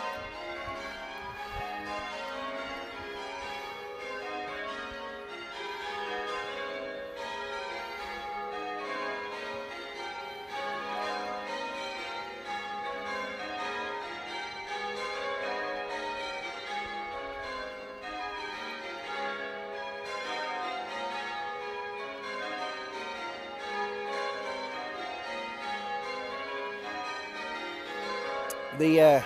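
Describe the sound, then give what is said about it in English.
Cathedral bells peal continuously from the right-hand tower at the front of a cathedral, the tower that also holds the clock, at about ten to nine; a dense wash of overlapping rings carrying steadily and fairly loud for the whole stretch, with no voices in the foreground. “The bells are housed in the right-hand tower as we look at the front of the cathedral now.”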